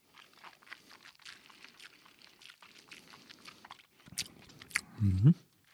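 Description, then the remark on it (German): Wet mouth sounds: a sip of Talisker whisky, lips smacking and tongue clicking as it is tasted, ending in a louder, deeper gulp-like swallow. “Na, schauen wir mal. Probieren wir mal. Prost.”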